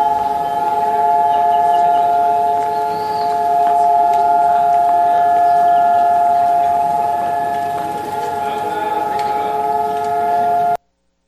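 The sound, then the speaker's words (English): An air raid siren, sounded for one minute as a moment of silence before independence celebrations, wails at a steady, unbroken pitch for the whole stretch, loud and continuous, with faint outdoor background noise beneath it and no talking. “And they actually sound the air raid sirens for 1 minute as a moment of silence.”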